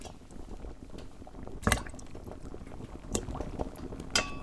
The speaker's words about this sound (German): Jetzt kochen schon einmal die Kartoffeln.